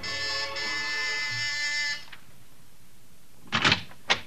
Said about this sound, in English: And you're at the house on Sutton Place, and you've got your finger on the buzzer.